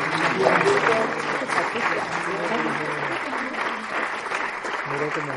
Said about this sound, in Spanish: Pues nada, damos un aplauso.